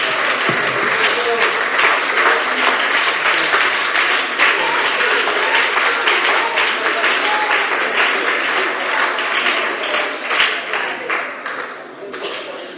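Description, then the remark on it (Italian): A crowd at a religious gathering applauds in praise of the Lord, steadily and loudly for about ten seconds, a dense crackle of many clapping hands with voices mixed in, before the clapping thins out and fades. “Io gli farei ancora un applauso glorioso al nostro Signore.”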